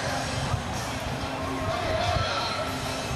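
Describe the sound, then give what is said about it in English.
A steady, dense crowd murmur from an excited crowd at an outdoor rally at the Reflection Pond at City Hall, waiting for the players to arrive and speak, with many overlapping voices blending into a constant hubbub, holding an even loudness throughout without distinct cheers or peaks. “I'm also looking forward to hearing this crowd behind me, and I know a lot more people are going to file in once the players arrive, too, to hear them speak.”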